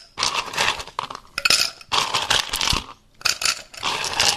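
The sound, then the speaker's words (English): Ice cubes clatter into a glass in three quick bursts of bright clinks and rattles, with short pauses between handfuls, as the glass is filled with ice to make a Midwest Mule cocktail. No one speaks. “Okay, so I'm going to make the Midwest Mule, which it says to fill a glass with ice.”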